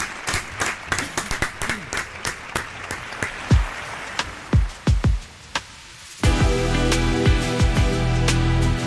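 An audience applauds, dense at first and then thinning to scattered individual claps, before music abruptly starts and carries on steadily to the end.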